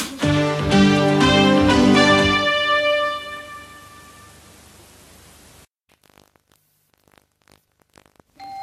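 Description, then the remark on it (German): A loud electronic doorbell chime plays a few bright tonal notes up front, then rings out and fades over several seconds before cutting off to near silence with faint scattered noises. “Ja, ich glaube, es hat gerade geklingelt.”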